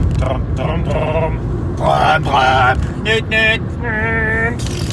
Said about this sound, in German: Genau, wir nehmen dich mit Fahrgeräuschen im Auto auf.